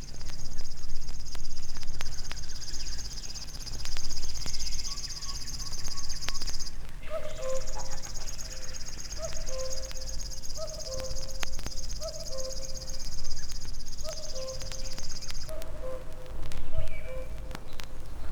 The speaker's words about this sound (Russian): Стрекочет кузнечик. Это песня камышовки. Птица очень осторожна, и увидеть ее нелегко. Зовут ее речным сверчком.